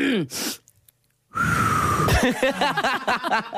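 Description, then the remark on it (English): A breathy rush of air, a pause, then a failed attempt to whistle a tune: airy blowing with a thin, wavering tone that collapses into choppy voiced bursts, like laughter breaking through. “You can't whistle at all.”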